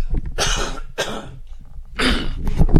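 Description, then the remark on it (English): Three harsh coughs with short pauses between them, the last one longer and throatier, heard alone with no talking. “And just going to have a quick cough.”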